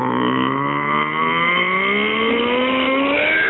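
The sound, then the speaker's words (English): An engine revs up steadily, its pitch climbing from a low rumble to a high, strained whine over a few seconds; loud and continuous, with no voices. “It starts as a low rumble and ends in a really high-pitched whine, and it revs itself up.”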